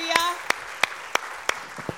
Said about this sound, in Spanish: usted ama a Cristo, dale un aplauso fuerte en esta mañana. Aleluya.